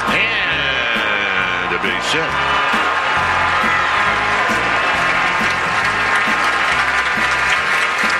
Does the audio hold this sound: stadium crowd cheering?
yes